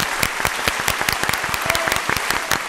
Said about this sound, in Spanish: Pues yo creo que el primer aplauso del día se lo va a llevar la pizza italiana. Eso es, napolitana.